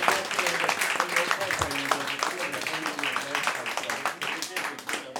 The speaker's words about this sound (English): So one more round of applause for singer-songwriters and veterans.